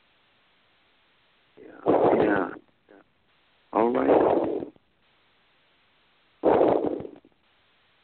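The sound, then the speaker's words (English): Three loud, rough gusts of heavy breathing from a caller breathing hard into the phone on an open call-in prayer line, each lasting under a second with pauses between, and a voice briefly speaks among them. “And somebody just breathing in the phone hard.”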